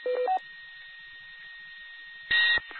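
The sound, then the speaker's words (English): A telephone rings with a short burst of electronic tones at the start, thin and band-limited as if heard over a radio, followed by a hiss and a brief noise burst near the end. “I am, but my phone's ran, so give me just a second.”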